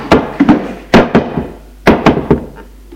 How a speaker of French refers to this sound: Monte à l'étage. Frappe à la porte de la chambre de son frère.